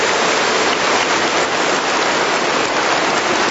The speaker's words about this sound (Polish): naszej scholi, tym, którzy animowali tak pięknie dzisiejszy śpiew i także gospodarzom dzisiejszego spotkania, a zatem naszym przyjaciołom z parafii świętej Anny w Katowicach, Janowie, gorące brawa dla nich. Dziękujemy.